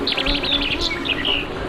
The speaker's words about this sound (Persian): این صدای بلبل رو می‌شنوید. توی مزارع گل بلبل‌ها از ساعت 2 نیم شب میان، انقدر می‌خورن چه چه می‌زنن تا گل شکوفا بشه.